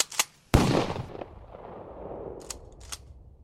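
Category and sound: sound effect, gunshot-like bangs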